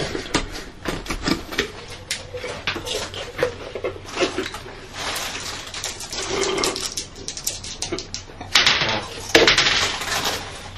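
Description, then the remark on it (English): Dice clatter and tumble across a hard tabletop in a run of quick, sharp clicks and rattles, fairly loud, settling after about ten seconds with no one speaking. “Dice.”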